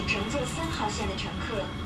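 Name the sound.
subway train arriving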